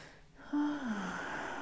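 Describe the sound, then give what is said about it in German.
A deep, airy breath drawn in and let out during a guided breathing exercise, with a faint low voiced tone sliding downward in the middle; fairly quiet, with no talking. “Wir nehmen ein paar tiefe Atemzüge”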